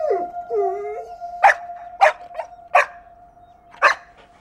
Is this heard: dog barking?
yes